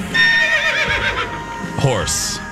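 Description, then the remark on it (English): A horse whinnies loudly, a shrill, wavering neigh that rises and falls for about two seconds before ending in a breathy snort. “Horse. That's right.”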